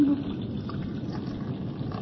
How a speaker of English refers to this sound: come to this your battle helmet as we pour the warm blood of your servant.